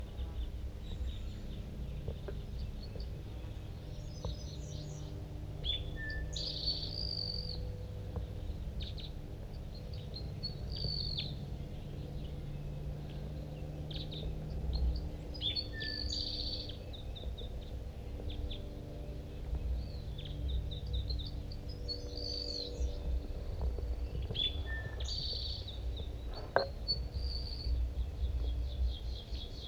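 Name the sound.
male bird singing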